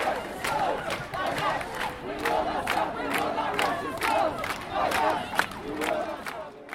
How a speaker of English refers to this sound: In the news today, Students for Justice in Palestine organized a protest on Library Mall. The rally started at 9 in the morning with speakers shouting various chants.